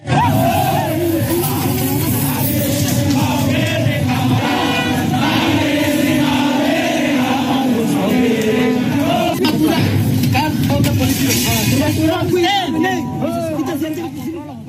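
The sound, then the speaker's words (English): A large street crowd of university students protesting in Dili, Timor-Leste, against a parliamentary proposal to buy new cars for politicians, roars and chants continuously, many voices shouting together in a dense, loud wall of sound with occasional higher cries rising above the din. “Now to Timor-Leste, and over the last few days, students have taken to the streets in protest over a proposal by Parliament to spend millions on buying new cars for the country's politicians.”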